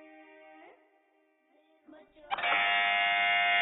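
A loud, harsh electronic buzzer, pressed first by a quiz contestant on a Madani Channel quiz show, cuts in and holds a steady, rasping tone to the end, following a quieter stretch of soft tonal hum.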